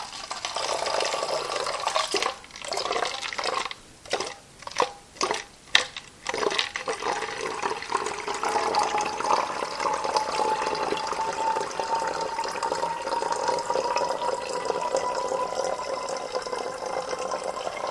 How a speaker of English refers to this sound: So now I'm just pouring out of the beaker carefully, very carefully.